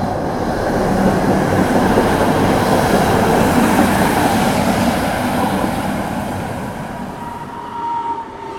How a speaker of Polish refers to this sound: Naszą podróż do centrum zaczynamy tramwajem marki Konstal.